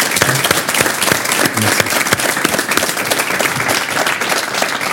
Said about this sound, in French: Applaudissements pour monsieur le maire, s'il vous plaît.